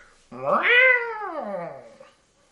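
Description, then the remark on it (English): A single long, drawn-out meow, presented as Grumpy Cat, fairly loud, rising in pitch and then sliding slowly down before fading out, with nothing else around it. “Hello, cat. Cat, is that you?”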